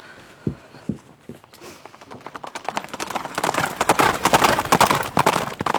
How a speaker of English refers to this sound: And so our heroine gallops away towards London